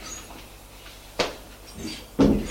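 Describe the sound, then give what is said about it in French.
A woman opens the door facing her own apartment door: a sharp click of the latch, a short pause, then a heavier thud-like knock as it swings or settles. No one speaking. “Elle va ouvrir la porte qui est en face du sien.”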